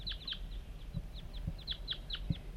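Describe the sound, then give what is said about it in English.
Wild birds call in a quick, irregular series of short, high chirps and clucks, moderately soft, with a few dull low thumps underneath and no talking. “the wild birds are coming now.”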